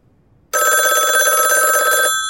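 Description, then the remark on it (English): A telephone bell rings loudly and continuously, a bright metallic trill that starts abruptly after a moment of quiet and fades just before the end. No voices accompany it. “It's just a telephone.”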